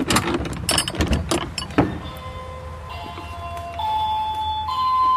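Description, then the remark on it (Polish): A heavy wooden door at the Dialog theatre is pushed open with a few thumps and rustles, then a door bell chimes in sustained, layered tones that ring on steadily, moderately loud. “Aha, drzwi nie skrzypią, ale tylko dzwonią.”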